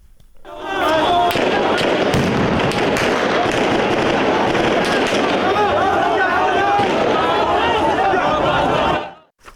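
gunfire

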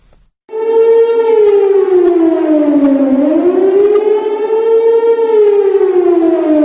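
air raid all-clear siren

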